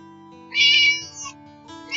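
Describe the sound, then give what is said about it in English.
A cat meows loudly, one long drawn-out cry followed by a shorter second call, with a third just starting at the end over a low steady hum. “Cats eat mice.”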